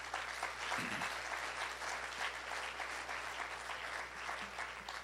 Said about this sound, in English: Anybody interested, clap your hands.